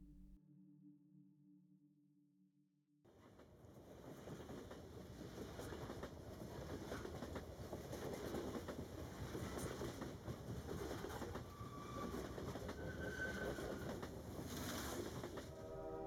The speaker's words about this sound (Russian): Мысли были ленивы и неспешны, под стать мерному постукиванию колес, неторопливому покачиванию вагона и монотонным пейзажем за окном.